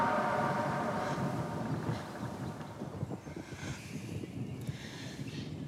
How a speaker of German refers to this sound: Da zogen Wetterwolken über der Menschenerde auf und die Fensterläden begannen im aufkommenden Wind zu klappern.